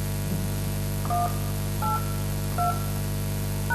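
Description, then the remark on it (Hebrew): Four short telephone keypad tones, each a two-pitched beep, tapped at a steady pace about every second, keying in a password on an automated phone line, over a low constant hum with no talking. “נא קישו את הסיסמה שלכם, ואחר כך סולמית.”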